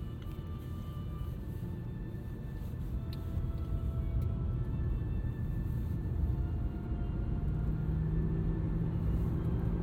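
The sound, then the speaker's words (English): An automatic car's engine in normal mode, not sport mode, pulling steadily as it accelerates, its deep low rumble swelling slightly louder partway through, with no voices over it. “And I'm not even in sport, it's an automatic.”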